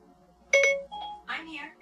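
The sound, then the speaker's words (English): A quick, bright electronic chime rings out from a phone as its Siri voice assistant is activated by someone saying "Hey, Siri", a short rising tone, followed by a brief spoken reply in a single voice. “If you say, hey, Siri. Everybody's phones just went off all across.”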